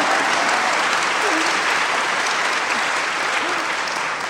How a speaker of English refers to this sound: I went to the library. I went to the library. The library, yes. I think we should clap about that.